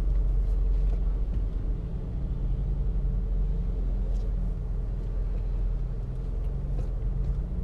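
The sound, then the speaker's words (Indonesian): A traffic jam of cars and motorbikes: a loud, steady rumble of idling and revving engines that fills the whole stretch without pause, with faint bursts of higher-pitched noise above it. “Dan mereka bikin macet gitu. Woi, motor lu pindahin dong, Bang. Ini mobil mau mana sih?”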